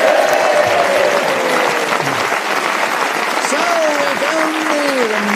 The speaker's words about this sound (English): A round of applause for him, please.